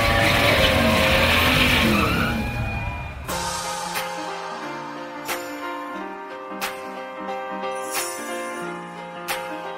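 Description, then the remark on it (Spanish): Car engines roar to life and rev loudly with a gritty, screeching edge for about three seconds, then cut off as a steady melodic backing with sharp beats takes over. “Se encienden los motores.”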